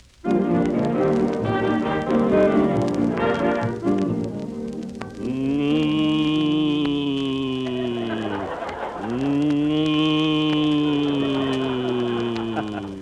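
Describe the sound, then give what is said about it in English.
Don Wilson imitates a cow, giving two long, loud, drawn-out moos back to back after a few seconds of busy background music and noise, in the radio Western drama Buck Benny Rides Again. “Nice acting, Don. It was Don Wilson, folks, just an old cow ham.”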